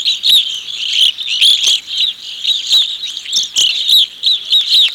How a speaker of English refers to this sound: When I taught an elder hostel class near Ely a few weeks ago, the songbird that impressed most people was the evening grosbeak. This species supposedly sounds like an exotic house sparrow.